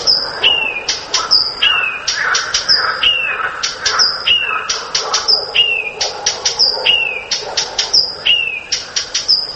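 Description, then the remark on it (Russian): A Blyth's reed warbler sings in many voices, its varied, repeating phrases each preceded by sharp, dry chek-chek calls, in a steady, busy rhythm with no talking. “Вот, допустим, садовая камышовка поет на многих голосах, но обязательно перед каждым коленом вставляет чек-чек.”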